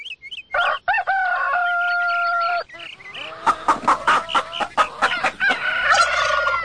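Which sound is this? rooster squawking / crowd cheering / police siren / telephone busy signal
rooster squawking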